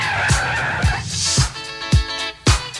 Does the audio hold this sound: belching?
no